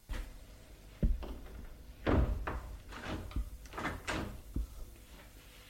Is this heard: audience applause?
no